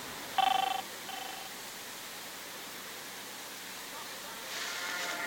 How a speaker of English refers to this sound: Oh, the car phone.